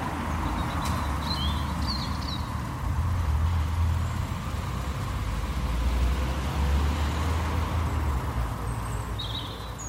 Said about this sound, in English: It wasn't like that here in Inverness. It was quiet, certainly, but not like that. It was Sunday evening quiet. Our office sits beside a busy junction and it was much, much quieter. But there were still cars.